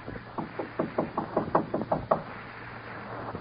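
knocking on a door

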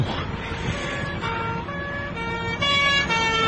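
police car siren passing

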